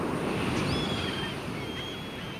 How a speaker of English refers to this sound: So next time you're at the coast enjoying the roar of the surf and cries of the seagulls, rest assured there's sound aplenty under the crashing waves as well.